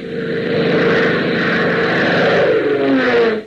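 Propeller engines of a mixed squadron of private planes, Piper Cubs, Aronkas and PT-19 trainers led by a Beechcraft, drone steadily in flight, a loud, continuous buzzing hum with a slight rising pitch toward the end, heard alone without any voices.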